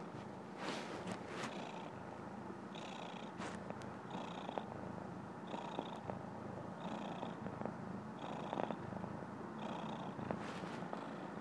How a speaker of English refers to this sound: See, I think a cat purring helps everything. Makes everything better.